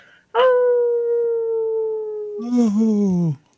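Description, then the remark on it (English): A person howls like a wolf: one long, loud, steady note, then dropping to a lower, wavering tone before cutting off. No other sounds. “Oh, made me howl by myself today.”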